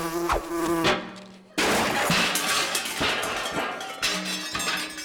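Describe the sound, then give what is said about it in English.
A small Russian military drone with an 'I Heart Vladimir' sticker buzzes loudly with a steady, insect-like whine, cut through by a brief drop-out and harsh bursts of noise and sharp knocks. No one speaks. “Oh, it was a Russian military drone. I thought it was a bit big for a wasp, and wasps don't usually have an I Heart Vladimir sticker on them.”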